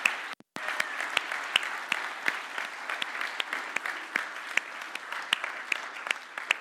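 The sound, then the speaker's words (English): Sustained applause from an audience for teachers and administrators standing up, dense overlapping claps forming a steady, even wash of sound with no voices, briefly cut off near the start before continuing. “And can I hear a round of applause for these noble, brave, beautiful souls?”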